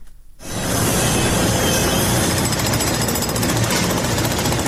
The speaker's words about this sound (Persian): میبرند، میکنند و سوراخ میکنند. تقریبا پنج شبانه روز است که صدای ماشین‌آلات و ابزار نیروهای امدادرسان در شمال سوریه و جنوب ترکیه قطع نمیشود.